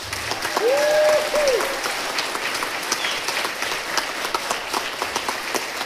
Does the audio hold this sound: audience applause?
yes